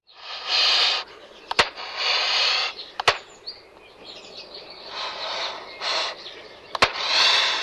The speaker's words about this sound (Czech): Výhružným syčením a klapáním zobáků reagovala samice na přítomnost člověka v blízkosti hnízda.